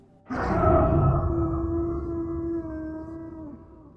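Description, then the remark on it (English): A single long, rough creature howl begins abruptly and sustains with a gargling, wavering tone before trailing off, loud with an echoing quality, and no voices. “Without a word, each of us threw open our doors, running for the woods on either side, with the echoing, gargled howl wailing out from behind.”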